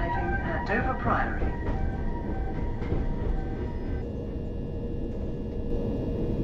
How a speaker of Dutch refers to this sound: Ja, hier op het station zie je dan ook de South Eastern High Speed treins staan. Die gaan onder meer naar Stratford en St. Pancras, een aantal stations. En dat is de Javelin, wordt die genoemd. Dat is een van de snelste treinen in Engeland.